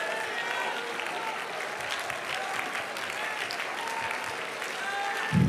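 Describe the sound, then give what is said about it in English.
A crowd claps and applauds steadily in praise, a dense rattle of many hands sustained at an even level throughout, with faint murmuring voices mixed in and a soft thump near the end. “You need to stand on your feet and clap your hands with everything in you.”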